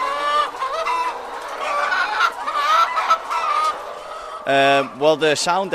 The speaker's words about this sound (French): Le son qu'on entend là, c'est bon signe. Les poulets nous disent qu'ils sont vraiment heureux, qu'ils ont assez d'espace pour bouger. Là, ils sentent qu'ils vont aller dehors. Alors, on ressent peut-être un peu d'inquiétude de leur part.